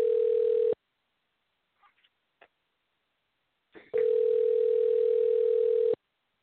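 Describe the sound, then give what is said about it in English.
A steady, mid-pitched telephone dial tone hums, stops abruptly, and after a few faint clicks and taps it returns loud and unbroken for about two seconds before cutting off, as someone dials their nephew's phone number. “So I'm dialing his number.”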